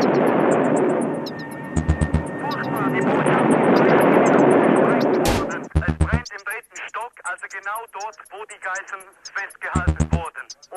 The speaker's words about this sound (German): Es explodiert nochmals. Auf der anderen Seite jetzt. Das Gebäude der deutschen Botschaft in Stockholm ist jetzt weggesprengt.